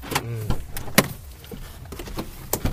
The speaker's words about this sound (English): I'm going to unlock the car.